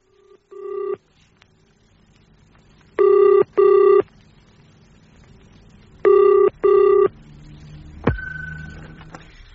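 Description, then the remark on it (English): A telephone rings in the British double-burst pattern, two pairs of steady electronic rings with pauses between, after a brief opening tone, ending with a click and a low hum; a call made from a phone box to Mr. Rollison's residence. No voices. “Now, look, Gillian, I must nip into this box and make a couple of phone calls.”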